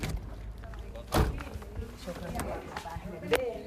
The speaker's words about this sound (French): Dans une rue déserte, la porte d'une petite maison s'ouvre.